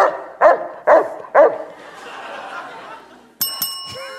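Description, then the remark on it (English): A Saint Bernard gives three loud, deep barks in a steady rhythm, followed by a low rumble and then a bright ringing bell chime near the end. “This dog breed shares its name with the patron saint of snowboarding.”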